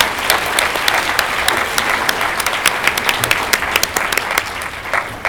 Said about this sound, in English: So I think you deserve a round of applause.